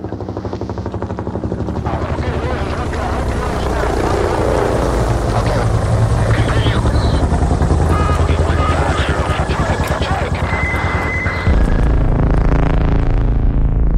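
A helicopter's loud, steady rotor chop fills the scene up close, a dense rapid thumping over a roaring engine that holds for the whole stretch, with a brief shift in tone near the end.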